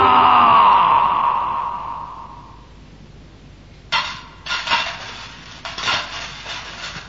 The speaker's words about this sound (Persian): صدای طلاها که به هم میخورد خوشش میومد. سکه های طلا رو روی سر خودش بریخت و فریاد میکشید: طلا، طلا، طلا، چقدر خوبه طلا، طلا، طلا، طلا.